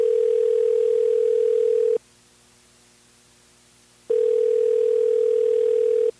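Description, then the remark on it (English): A telephone tone on an outgoing call to a woman: two long, steady electronic buzzes, each about two seconds, with a quiet gap between them. Clear, with no voices. “Now let's see if we can get her on the phone.”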